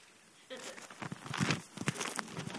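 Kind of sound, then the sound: household object, book pages turning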